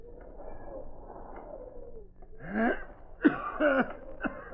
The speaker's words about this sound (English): almost collapsed as a new outburst of coughing convulsed him.